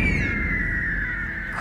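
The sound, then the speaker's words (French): A single drawn-out eagle screech, loud, a piercing cry that slides slowly downward in pitch for over a second above a low background rumble, with no voices. “Je vous présente le redoutable aigle venimeux.”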